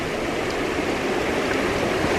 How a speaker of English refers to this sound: Listening to the river today, I don't know what it is, but I can sort of hear it singing to me. And all those other years, it was just water flowing down the river to me. But it's a spiritual being now.